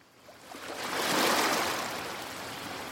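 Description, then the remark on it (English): Atlantic surf rolls in as a broad, hissing wash that swells to a peak and then eases into a steady roar, breakers crashing on a five-mile sandy beach on an island, with no voices. “It's an island, so you have to take a little boat, and it's 5 miles of sand and Atlantic breakers crashing.”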